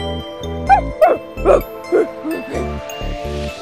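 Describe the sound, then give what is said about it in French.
A run of short, bright dog barks, six or so in a quick rhythmic series, sounding over a steady tinkling musical tune like a toy's jingle; no one talks. “Ah, il y a les chiens.”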